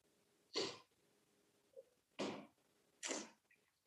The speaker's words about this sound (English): So now I took a sip and my coughing is better.